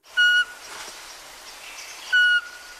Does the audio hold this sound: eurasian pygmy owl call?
yes